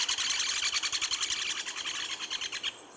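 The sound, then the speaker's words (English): A pileated woodpecker's laughing call: a fast, steady run of loud, high, ringing notes repeated about seven times a second for three seconds, with no talking over it. “You kind of hear the laugh there, don't you?”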